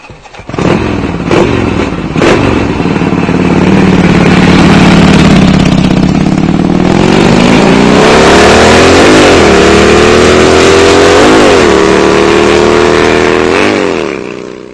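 A loud motorcycle engine idles with a steady low rumble, then revs up several times, its pitch climbing and dipping in repeated throttle blips; no voices are heard.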